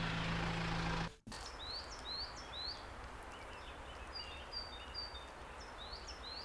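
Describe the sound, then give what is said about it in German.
A loud tractor engine drone cuts off abruptly after a second, leaving a quiet forest where several birds whistle and chirp in short, repeated phrases. “Und wenn ich den Traktor abstellen würde, würde ich jetzt hören, wie die Vögel pfeifen.”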